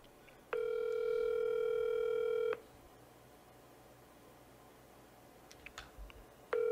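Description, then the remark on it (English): A phone line ringing on the caller's end: a steady electronic ring tone lasting about two seconds, a long quiet pause, then the next ring beginning. No one speaks. “Come on, man. Answer the phone.”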